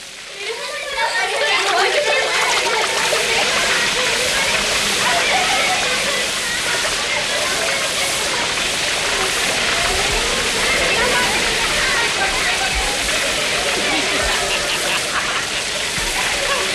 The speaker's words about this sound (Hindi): झरने पर पहुंच गए।